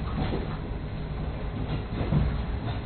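A steady low rumble of a JR East train in motion, with faint rhythmic clacking over the rails and a constant mechanical hum, heard from inside a passenger car, with no voices.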